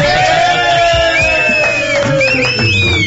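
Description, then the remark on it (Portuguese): A TV studio audience cheers loudly and steadily at the end of the programme, with high whoops and shouts rising above a dense roar of voices, continuous for a few seconds. “Você quer ver a festa da plateia?”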